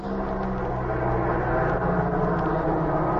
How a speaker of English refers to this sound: Then, from the distance, came the hum of an airplane motor. Plane. Yes, and he's going to land. He's circling to come into the wind.